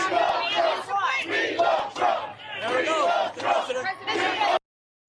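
rally crowd cheering

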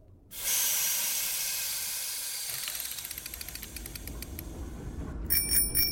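bell being rung repeatedly

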